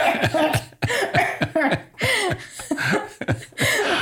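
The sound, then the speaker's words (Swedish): A series of forced, staged coughs demonstrating coughing to mask the sound of tearing pages out in a quiet library, several short bursts in quick succession, fairly loud, with a bit of laughter mixed in. “Så varje gång jag rev så fick jag ju hosta till så.”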